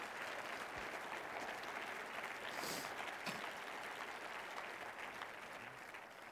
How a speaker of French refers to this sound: Vous pouvez applaudir les moniteurs de l'école du dimanche.